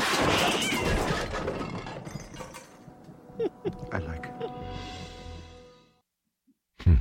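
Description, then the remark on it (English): A cat squeals in a few sharp, high-pitched wailing bursts mid-clip, following a noisy rustling start; the sound fades into silence before a brief knock at the end. “You got the cat squeal.”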